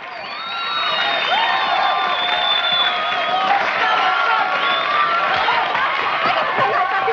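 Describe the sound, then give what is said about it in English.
An audience claps and cheers loudly after a performance, with many overlapping shouts and whoops over a steady wash of noise. It swells within the first second and stays strong without a break. “Max joins in with the applause.”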